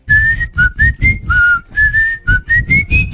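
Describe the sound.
A pop song melody whistled loudly and alone, in a string of short, rhythmic phrases whose clear, high notes step up and down in pitch.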